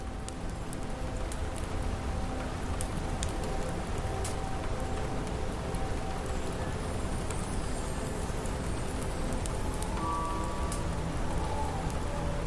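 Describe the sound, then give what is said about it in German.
Steady, dense pattering of sleet on the glass roof of a library, continuous, with scattered sharper taps over a constant wash and no voices. “Draußen prasselte der Schneeregen weiter auf das Glasdach der Bibliothek.”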